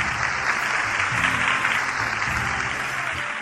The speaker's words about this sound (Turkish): Hepinize teşekkür ediyoruz. Kocaman alkışlar.